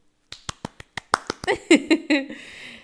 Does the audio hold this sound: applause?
yes